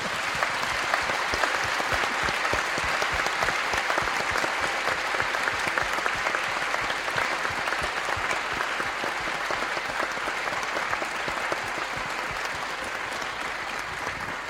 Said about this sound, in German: Und wenn Sie jetzt einen Applaus geben, dann merkt der Nunzius auch, wie sehr wir uns das wünschen.